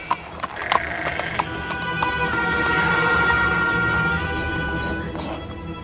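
A few sharp clip-clops from the hooves of a ridden donkey going downhill land near the start, then a long, drawn-out animal call rises and holds over a steady background.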